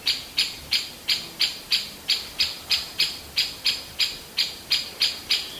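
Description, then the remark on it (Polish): A great spotted woodpecker parent gives its alarm call at the sight of two people near its young hidden in a tree hole, a steady run of about fourteen sharp, high-pitched 'kik' notes, each loud and abrupt, repeated at an even, rapid pace with no voices. “dzięcioł duży, który na widok dwóch osobników z gatunku Homo sapiens, czyli pana Michała i mnie w pobliżu jego dzieci schowanych w dziupli, podniósł alarm”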